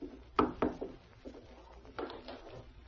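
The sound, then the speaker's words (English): A front door is opened: a couple of sharp wooden clunks and a latch click, followed by softer rattling and shuffling movement, with no one speaking. “I'll answer the door.”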